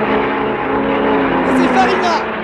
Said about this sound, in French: Ah, j'entends le ronflement de la première voiture. J'oriente mon micro pour que vous l'entendiez, mes chers auditeurs.